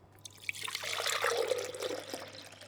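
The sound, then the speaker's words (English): Milk pours from a milk jug into cups in a steady, splashing stream that builds and then trails off into a soft dribble, as a woman pours three cups and then two more, with no one talking. “Then she poured two more.”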